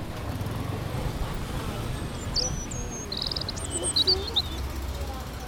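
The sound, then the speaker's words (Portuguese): Several birds chirp in short, high bursts in a city square over a steady rumble of outdoor crowd and traffic noise, with a few brief calls standing out near the end. “É tão curiosa a diversidade de pessoas quanto a diversidade de pássaros.”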